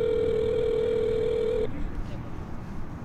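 A telephone call to a father in the Phoenix area, about 150 miles away, rings through the earpiece: one steady electronic ringing tone lasts about a second and a half, then cuts off, leaving faint line hiss and rustle.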